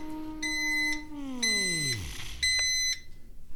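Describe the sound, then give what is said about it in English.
A microwave beeps three times, evenly spaced and fairly loud, while its low motor hum winds down and fades beneath the first two tones, signalling that a cup of tea has finished reheating. No one speaks. “That beeping is obviously the indication of my tea being reheated.”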